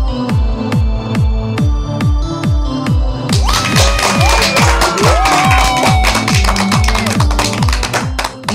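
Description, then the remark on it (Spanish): Applause and cheering swell in about a third of the way through, a dense crackle of many hands over a steady, rhythmic musical beat that continues beneath it to the end. “Esa energía positiva y esos aplausos damos inicio una vez más a este programa Te Invito a un Café.”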